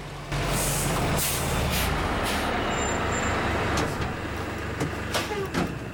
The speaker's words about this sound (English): Two trucks pull up outside a large house, and Ali gets out with some soldiers.